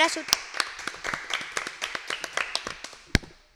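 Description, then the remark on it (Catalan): An audience gives a round of applause: a small group claps together in a quick, uneven patter of sharp hand claps that stays fairly steady for a few seconds, clear, with a few louder claps standing out. “Primer de tot, donem un fort aplaudiment”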